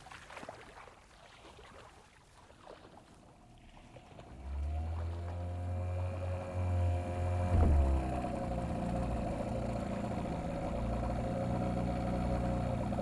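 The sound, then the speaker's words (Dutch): The small outboard motor of a rubber boat carrying a mother and her three children toward a larger boat drones steadily over water, its low hum rising and holding after a few seconds of quieter splashing and wind, with no one speaking. “Diyala en haar moeder, broer en zus zitten in een rubber bootje en zijn een klein uur onderweg naar een grotere boot”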